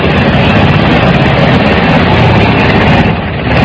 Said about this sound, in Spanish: Escuchemos cómo se despliegan los aviones de la Fuerza Aérea Colombiana y también los helicópteros del Ejército. En este momento está ocurriendo esto en el corazón del Valle y en el centro del Valle. Escuchemos.